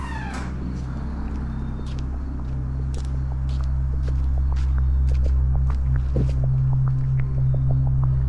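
Footsteps of someone leaving a dinner table and heading to the patio, walking at a steady, unhurried pace, a long series of light, crisp taps over a constant low droning hum, with no talking.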